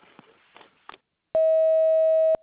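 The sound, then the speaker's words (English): An answering machine beep: one loud, steady, mid-pitched electronic tone that holds for about a second and cuts off sharply, preceded by a few faint clicks and soft noise. “Sorry I can't come to the phone right now, but if you'll leave your name and number after the beep, I'll give you a call back as soon as possible.”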